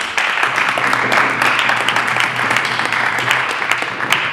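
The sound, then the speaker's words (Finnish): Steady audience applause after a presentation fills the whole stretch, a dense wash of many hands clapping at an even loudness with no voices standing out. “Aplodit.”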